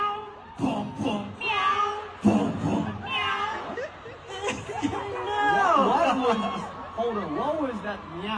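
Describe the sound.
A person makes several drawn-out, wavering meow sounds with their voice, imitating a cat, fairly loud, mixed with some vocal chatter.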